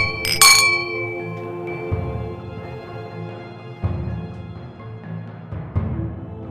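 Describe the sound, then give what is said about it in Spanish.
A bright clink of glasses in a celebratory toast rings out near the start, leaving a short shimmering tail, followed by low sustained musical tones swelling in a slow, steady pulse. “¡Salud!”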